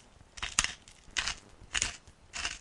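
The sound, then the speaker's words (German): A pepper grinder grinds pepper into tomato juice, crunching in four steady, evenly spaced bursts, each a short gritty rasp, with quiet pauses between twists and no talking. “Dazu etwas Pfeffer.”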